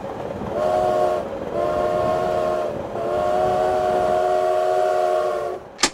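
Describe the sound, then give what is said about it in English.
A steady low rumble of a moving train fills the scene, with three long, sustained horn-like blasts sounding over it before a sharp click at the end. “We landed in the center of the train.”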